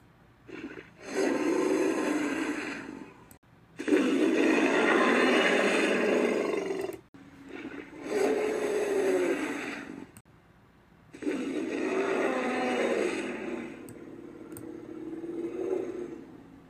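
A synthesized T-Rex bellow made by mixing three recorded sounds with stock elephant noises: four long, deep bellowing roars with a rough, trumpeting edge, loud, each lasting a few seconds and separated by short pauses, with no talking.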